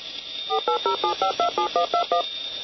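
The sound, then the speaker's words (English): A rapid string of about ten touch-tone dialing beeps, each a short dual-pitched tone in quick, even succession, heard clearly over a faint steady line hiss with no talking. “We're actually having some issues here with the phone lines and even with Skype.”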